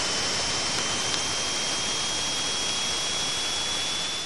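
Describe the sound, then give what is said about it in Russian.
Space probe audio from inside Saturn's rings, between the planet and the rings: an even, continuous roar of hiss lasting several seconds, with a thin high whistling tone running steadily through it and only a few faint clicks. “А теперь послушайте звук, который издает звук внутри колец, то есть между планетой и кольцами.”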